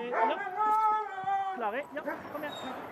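A pack of sled dogs at the front of a buggy, being sorted out before the start, yelps and whines excitedly, high-pitched yips and barks overlapping continuously in an eager, noisy chorus.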